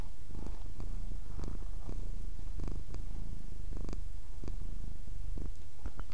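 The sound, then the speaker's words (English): A cat purrs up close, the microphone held in front of its face, a steady low rumbling drone with rhythmic pulses of breath roughly every half second, no voices over it. “Did you hear that purring?”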